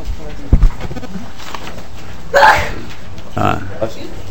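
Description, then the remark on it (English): A single sharp, explosive sneeze bursts out partway through a legislative committee meeting, fairly loud, with faint murmuring voices and a couple of softer throat noises around it. “Bless you.”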